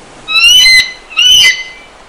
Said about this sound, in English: And found a sound of an eagle. Let's see if that works.